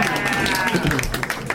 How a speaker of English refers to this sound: That's the first time that movie has gotten a round of applause. I like that movie.